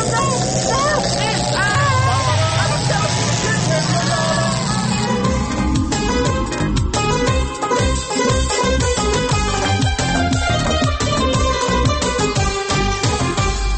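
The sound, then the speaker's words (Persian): A time machine powers up with a loud, warbling whir and rising electronic tones for about five seconds, then gives way to steady rhythmic music. “ماشین زبانه. چه شد؟ آخ دوباره من اینو پیش پیش تنظیمش گرم، شروع کرد به کار کردن.”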